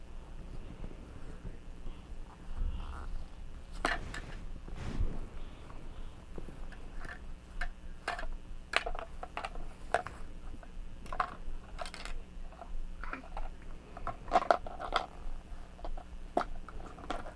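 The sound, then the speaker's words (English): A small plastic toy waffle clicks and taps as it's handled, sharp irregular clicks scattered throughout over a low, breathy background rumble, with no one speaking. “It's a toy waffle.”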